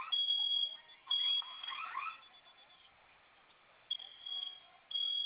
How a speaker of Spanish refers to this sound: Ok, ya le puse, pero ajá, sigue sonando una. Sigue sonando su alarma, ¿verdad?